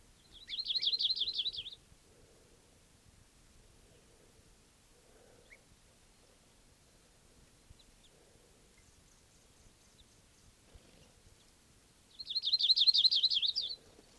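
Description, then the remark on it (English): Two sharp bursts of high, rapid chattering alarm calls from a bird in a foraging flock, one at the start and one near the end, each lasting about a second and a half, with quiet, faintly rustling stillness between. “Flock foraging around here. Alarm calls of a bird.”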